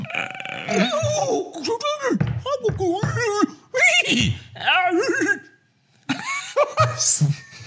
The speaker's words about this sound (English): That was an audio clip of two horses trying to braid each other. Halfway through it, I realised they're both horses, so neither of them can talk.